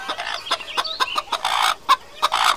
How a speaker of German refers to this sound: Mal wieder eine Aufgabe für unsere guten Ohren. Aus welcher Richtung kommt das Hühnergackern? Ich glaube von rechts. Ja, hinter dem Kuhstall müssen wir gucken.